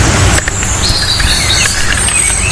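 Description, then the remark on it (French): A European robin and a blackbird sing at once in Normandy: the robin's high, thin warbling phrase overhead and the blackbird's lower, mellower fluting song a little farther off, with steady outdoor background noise and no talking. “On a le rouge-gorge au-dessus de nous et le merle un petit peu plus loin.”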